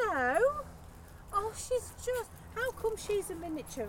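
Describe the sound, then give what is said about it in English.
Two dogs named Hugo and Ralph whimper and whine: one long, wavering whine opens, followed by a quick, uneven series of shorter high-pitched whimpers and yips. “They make the same noises.”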